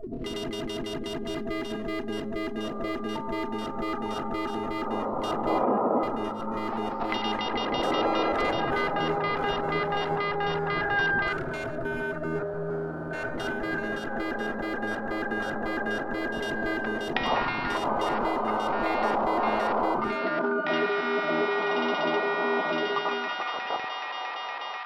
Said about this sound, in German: Echo und Hall. Ich kann mal zeigen, wie das klingt. Das ist einfach im Grunde einfach wiederholt.